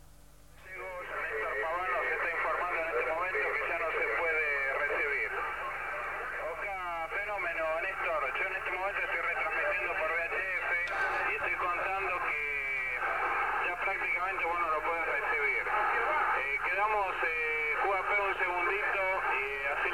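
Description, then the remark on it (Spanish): A continuous burst of radio signal sound, the first signals sent by a satellite, received at 1:15: a band-limited, warbling electronic chatter with rapid chirps and modulated tones, steady and fairly loud for the whole stretch. “En este momento, a la 1:15, estamos escuchando las primeras señales enviadas por el satélite.”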